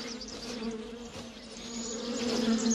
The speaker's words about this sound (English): Senti, I hear the bees. I don't see them. They must be off the path somewhere.